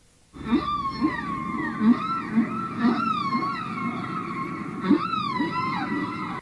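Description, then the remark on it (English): A string of warbling, dolphin-like whistles that sweep up and down in pitch, loud, running for several seconds with soft pulsing blips underneath and no voices; an item separator sound on an audio magazine tape. “That dolphin-type sound, by the way, is designed to be an item separator and help you to either find or skip over articles on the magazine tape.”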